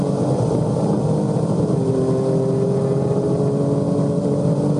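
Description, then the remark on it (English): A loud Formula One race car engine drones without pause, its pitch dipping and then climbing again as it shifts between second and third gear. No voices are heard over the steady roar. “You know, the car doesn't know whether it wants second or third.”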